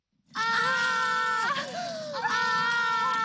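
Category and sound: human body sound, two women screaming together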